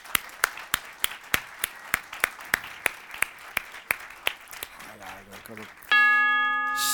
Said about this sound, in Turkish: Şimdi gongumuzu başlattık mı? Hemen şöyle yapalım. Süremizi başlatalım.